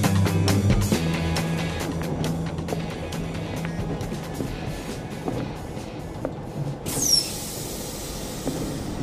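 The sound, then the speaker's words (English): A train rolls along the rails with a steady low rumble and scattered clacking from the wheels, and a brief high metallic squeal rises near the end. “The train is leaving in 3 minutes.”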